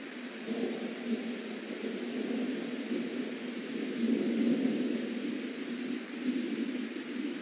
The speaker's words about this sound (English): Often, of an evening, they would go to sleep under their de clochoda, their tents, listening to Ayatokoloski thunder, and watching the fire streaks of Anigaliske lightning stab across the night sky.